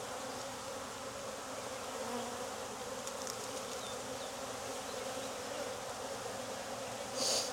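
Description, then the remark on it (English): A steady, dense drone of many honeybees buzzing on a hive frame during a hive inspection, continuous and unbroken, with a brief brighter rustle near the end and no voices. “Lots of bees.”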